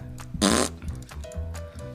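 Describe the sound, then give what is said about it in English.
A short, loud, buzzing raspberry blown with the lips by a person with an 80s hairdo, imitating a fart, lasting about a quarter second over a low, steady background hum. “Genius can appear in all shapes and sizes, and this time it's wearing an 80s hairdo and making fart sounds.”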